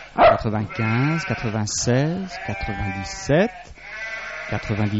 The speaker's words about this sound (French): Ah, voilà une brebis qui aura bientôt ses petits.